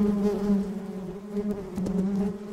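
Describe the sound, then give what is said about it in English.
A dense, steady drone of bees buzzing as their nest is pulled out, a low humming tone with slight wavering pitch that continues unbroken throughout, with no voices present. “She shut herself up in the nut cellar while Mr. Jackson pulled out the bee's nest.”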